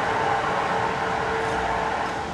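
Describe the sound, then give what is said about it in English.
A steady, fairly loud mechanical drone of construction noise, a broad rumbling wash with a low groaning hum running through it, continuous for the whole stretch with no voices. “I guess that's construction noise up there, although it sounds like a sea monster, doesn't it?”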